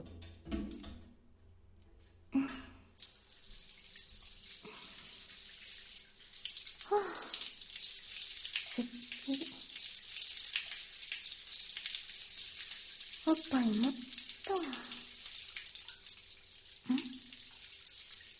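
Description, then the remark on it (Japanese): After a few quiet seconds, a shower starts spraying water in a steady, full hiss that continues to the end, broken now and then by brief, soft low sounds. “シャワー貸して。”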